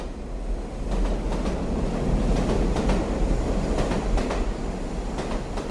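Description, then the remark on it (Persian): A train rumbles steadily along the rails in Iran, heading south into the Zagros mountains in Lorestan on the railway linking Iran's northern and southern seas. Its wheels click in a recurring clickety-clack rhythm over a deep, continuous low roar, heard from inside or beside the moving cars. “اولین باری نبود که سوار قطار می شدم، اما احساس کسی رو داشتم که برای اولین بار سوار قطار می شه.”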